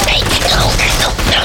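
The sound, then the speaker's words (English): Rapid machine gun fire rattles in a steady burst of loud, crackling shots with no pause, dense and harsh throughout. “Men in a hidden machine gun nest, covering the open ground between the buildings and the artillery pits, caught the Reaper across the side.”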